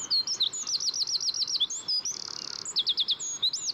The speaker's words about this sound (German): Bis zu 500 Meter weit kann man seine schmetternden Trillermelodien hören.